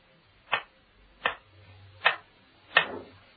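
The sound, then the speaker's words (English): Four slow, steady ticks from an ugly old kitchen clock in the scullery of a house, evenly spaced, each a dry woody knock with a faint low hum between them. “The ugly old kitchen clock looked down on the scullery of the house.”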